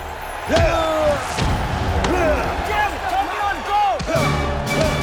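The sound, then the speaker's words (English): In a boxing ring, Rocky lands several heavy, dull punches on Mason's body at uneven intervals, forceful, over a busy backdrop of shouting voices and crowd noise. “As Rocky administers more punishment to Mason's body, he visualizes punching the carcasses in the meatpackers.”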